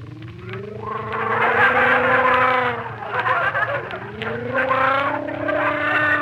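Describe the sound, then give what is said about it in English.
A person gargles hot salt water loudly with voiced, bubbling throat sounds in two long bursts, the pitch rising and sliding down in each, with a brief break in between and no talking. “Well, take some hot water and salt and gargle.”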